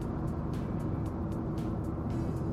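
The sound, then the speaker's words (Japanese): Steady, loud road rumble from a moving car, an unusual, special vehicle of a kind seen only overseas, a dense low roar with faint regular ticks above it and no clear rise or fall as it carries on. “へえ、なんか海外でしか見かけないような、なんか特殊な車だ。”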